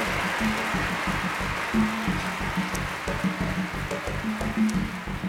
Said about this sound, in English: I keep listening for the monkeys, but I don't hear any monkeys in there. This is mostly scripture. This song is, I think every word in it is scripture.